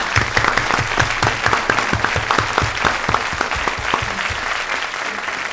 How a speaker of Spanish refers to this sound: Te vas con este aplauso nuestro.